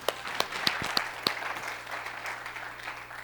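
A church crowd breaks into applause for a person: many hands clapping in a dense, rattling wash, with a few sharp individual claps standing out at the start before settling into steady clapping.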